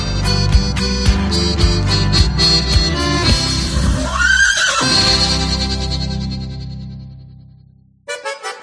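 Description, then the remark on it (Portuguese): A horse whinnies loudly in a long, quavering neigh over a rhythmic music backing, the sound ringing out with echo and slowly fading before music briefly resumes. “Chora meu cavalo, um dia tu aprende.”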